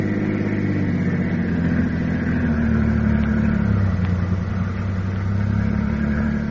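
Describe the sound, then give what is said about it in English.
A car engine runs steadily with a low, rumbling hum that shifts pitch slightly as it pulls away and keeps driving along the West Side Highway, loud and continuous with no voices. “We'll go for a drive.”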